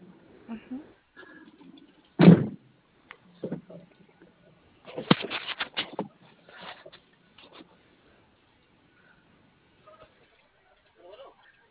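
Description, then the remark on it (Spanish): A vehicle door is opened for the driver: one sharp mechanical clunk, then a few seconds later a burst of rattling and scraping handling noises, with faint murmured voices around it. “Sí, abro puerta a chofer.”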